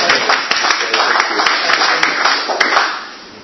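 An audience applauds steadily after a presentation, a dense wash of many hands clapping with sharper individual claps poking through, holding strong before tapering off in the final moments.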